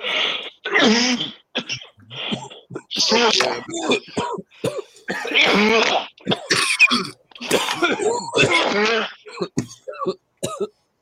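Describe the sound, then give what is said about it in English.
Repeated bursts of coughing and throat clearing, loud, several people hacking in overlapping fits for about ten seconds with brief gaps between bursts. “As we die, as we all die, one cough at a time.”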